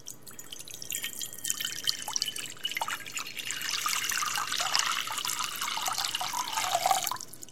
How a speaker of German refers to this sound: Das heißt, wir nehmen nochmal eine leere Schüssel und gießen da nochmal Wasser rein.